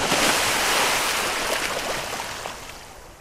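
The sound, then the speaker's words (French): Ocean waves crash onto the shore in a loud, continuous roar of surf, the hiss of churning water filling the scene before slowly easing off. No voices. “Le fracas des vagues.”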